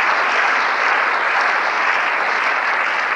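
Steady, dense clapping from a large audience fills the room, a sustained wash of applause that holds at an even, fairly loud level throughout with no voices standing out.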